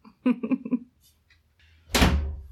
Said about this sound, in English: Just close the door.